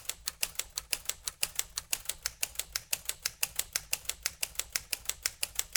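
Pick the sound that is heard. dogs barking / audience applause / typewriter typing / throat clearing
typewriter typing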